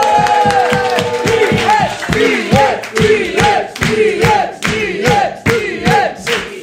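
A crowd cheers and claps loudly and steadily, with shouts and whoops rising over a dense, rhythmic patter of applause that holds for several seconds.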